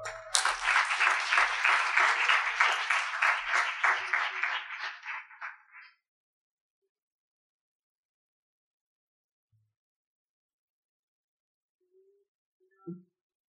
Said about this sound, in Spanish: Un fuerte aplaudiment, sisplau